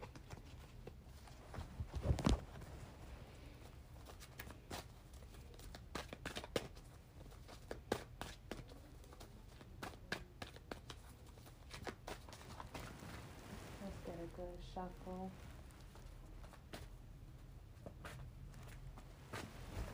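A deck of cards is shuffled, with a long run of crisp, irregular snaps and soft flutters, plus a brief faint murmur partway through.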